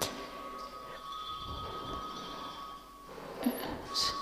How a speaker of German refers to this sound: Eine Glocke. Ha? Das Ende. Ein Handy. Das weiß ich nicht. Ich habe mein Handy abgestellt. Ja, irgendwo anders.